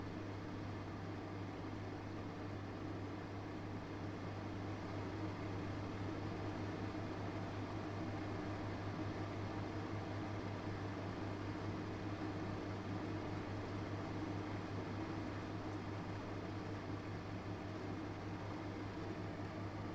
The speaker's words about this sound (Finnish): Se oli hieno ja monille varmaan aika tuttu ääni, paitsi että esimerkiksi meidän mikro ei enää pidä noin kaunista ääntä. Joo, se oli aika kiva ääni.